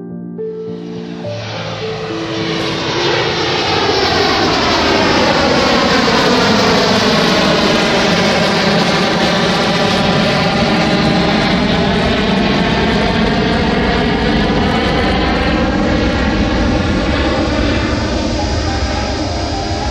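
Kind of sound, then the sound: vehicle, airplane landing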